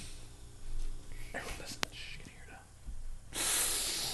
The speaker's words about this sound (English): Right now, it's just breathing heavy.